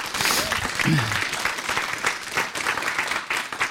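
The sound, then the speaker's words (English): An audience applauds steadily for several seconds, a dense, sustained wash of many hands clapping at even loudness, with a brief voice calling out early on. “Can you give a good applause for these folks who helped?”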